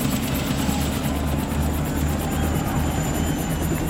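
A helicopter at a football ground in Pripyat, with men in high protection suits climbing out. Its rotor thuds in a steady, rapid rhythm over a loud, continuous engine drone, constant throughout, with no voices.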